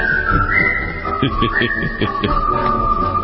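A whistled tune with a steady, sliding melody that holds its notes for a while before shifting pitch, fairly loud, over a soft rhythmic background.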